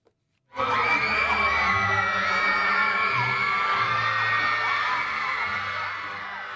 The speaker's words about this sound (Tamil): விஜயம் செய்திருக்கின்ற பாப்பரசர் பிரான்சிஸ் அவர்களுக்கு அங்கு கூடியிருந்த மக்கள் ஆரவாரமான வரவேற்பு கொடுத்திருக்கின்றார்கள்.